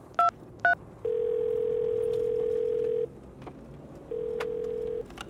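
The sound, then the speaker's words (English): Two quick keypad beeps are followed by a steady ringback tone that buzzes for about two seconds, pauses, then starts again, a call placed from a person's phone ringing out unanswered on the line with no one talking. “Let me try calling from my phone.”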